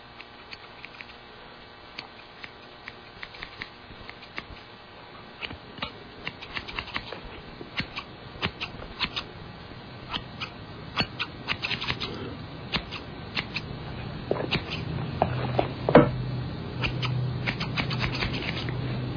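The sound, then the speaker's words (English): A Halloween sound effect: scissors snip through hair again and again in a crisp, uneven rhythm, with soft rustling between cuts and no voices. “The sound of scissors cutting hair?”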